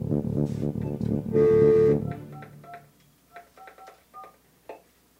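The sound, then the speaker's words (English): A rapid run of telephone keypad dialing tones as a guest is called on the phone: short beeping pairs in quick succession, loud at first, then a few fainter, spaced beeps trailing off, with no talking. “We're going to bring a guest on the phone here. Hold on one second as I get him up.”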